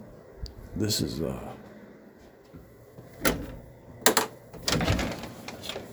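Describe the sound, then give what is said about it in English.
Scattered wooden creaks and knocks in a house, a few short bursts spread over several seconds, moderately loud, with a voice talking faintly in the background. “Anyway, I'm hearing some like creaking noises in my house since I've been talking about this.”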